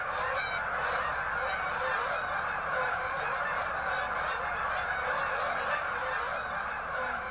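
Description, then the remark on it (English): A huge flock of thousands of geese honking continuously, overlapping calls forming a dense, steady clamor that fills the scene without pause, with no talking. “It certainly gets very noisy, and the numbers of the geese in prime time in about mid-October just gets overwhelming. Thousands and thousands of them.”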